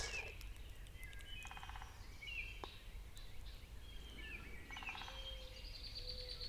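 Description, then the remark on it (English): Several birds sing outdoors, with repeated chirps, short trills and whistled phrases coming and going over a steady low rumble of background noise. No one speaks. “A moment of breath and bird song.”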